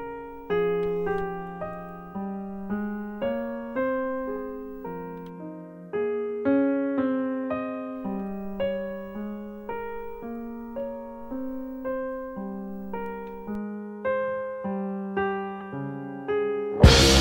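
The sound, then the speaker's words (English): Nordic jazz piano trio music with an outstanding pianist: melodic piano lines over a low bass, notes struck and decaying in a steady, unhurried rhythm, clear, with no voices. “c'est du jazz nordique, avec un pianiste extraordinaire.”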